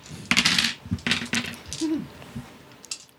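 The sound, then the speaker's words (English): Dice clatter across a hard tabletop in a few quick, bright bursts of clicks, fairly loud, settling into scattered taps within a few seconds, rolled for an improvised weapon attack in a game. No one speaks. “Roll up your improvised weapon.”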